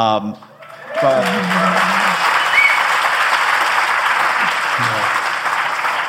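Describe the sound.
A short spoken phrase gives way to a sustained burst of audience applause, a dense wash of clapping lasting several seconds while a voice briefly carries on underneath.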